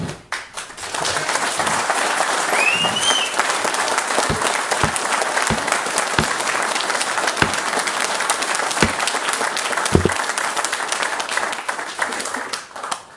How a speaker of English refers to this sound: As I said, I appreciate the enthusiasm. I wish we can hold off on applause so we can actually get the comments on the table as people want to present them.